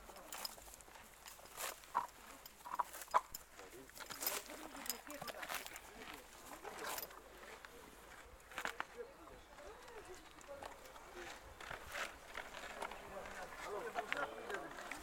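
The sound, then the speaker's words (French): A mare's hooves walking: repeated sharp thuds in an uneven, plodding rhythm over a noisy outdoor background with faint muffled voices. “En fait, vous vous mettez au rythme du cheval, si j'ai bien compris.”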